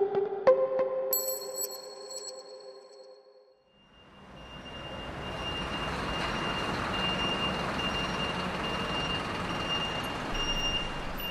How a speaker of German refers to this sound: Neun Uhr morgens vor dem Sport- und Olympiamuseum im Rheinauhafen in Köln. Ein Lastwagen fährt vor den Eingang.